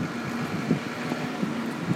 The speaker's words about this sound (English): Oh, and it's really windy down here too.